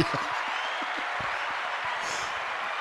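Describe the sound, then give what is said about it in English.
A round of applause: many hands clapping together in a dense, steady wash of sound that stays loud and even for the whole stretch, with no voices standing out. “Round of applause.”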